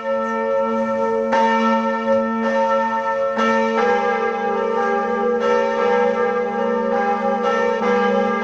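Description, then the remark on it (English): The large bells of Notre Dame Cathedral in Paris, an 850-year-old French Gothic building, ring together in a sustained, overlapping peal, their deep tones and shimmering overtones blending continuously and loudly with new strikes layering in throughout, no voices present. “The bells of Notre Dame Cathedral ringing out together for the first time since the devastating fire of 2019.”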